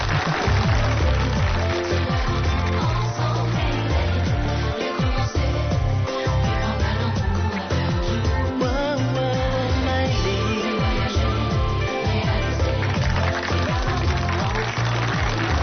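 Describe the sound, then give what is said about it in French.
A studio audience applauds steadily throughout, a dense, continuous wash of clapping at an even, fairly loud level with no pauses. “Marrainé par Perle Lama, applaudissements.”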